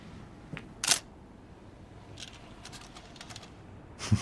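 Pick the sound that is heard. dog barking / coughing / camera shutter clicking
camera shutter clicking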